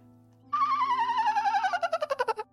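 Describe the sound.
A voice imitates the noise of a land dolphin, the call of the Pictish Beast, a legendary creature: a loud, high wavering squeal that slowly slides downward in pitch, then breaks into a quick run of pulsing chirps before stopping.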